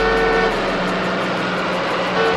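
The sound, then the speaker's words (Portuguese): Dense, loud street traffic with car horns honking over a constant roar of engines, the blaring tones overlapping continuously throughout. “E em quinto lugar, o trânsito.”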